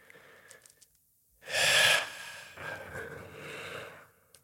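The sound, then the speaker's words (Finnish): After a short near-silence, a person who had been holding their breath, with ropes tied around their body, takes a sudden deep, rushing inhalation that swells loudly, followed by a longer, softer breathy exhale that trails off. Quiet otherwise, with no talking. “Ja nyt mä aloin tuntea nämä köydet, kun vaan aloin siis hengittää.”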